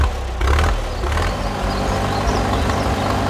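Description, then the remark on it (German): A heavy tractor engine rumbles steadily and loudly, its deep mechanical drone holding constant as a farmer drives it, harvesting a corn field, with no voices present. “Doch dann kam der Bauer mit seinem Traktor und erntete das ganze Feld ab.”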